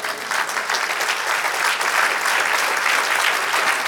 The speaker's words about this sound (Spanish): Quiero un aplauso, Señor.